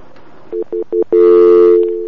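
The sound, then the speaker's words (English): A telephone line tone that won't clear: four short, evenly spaced beeps followed by a loud, steady, buzzy tone that holds without stopping. No voices are heard. “Is the phone line not clearing?”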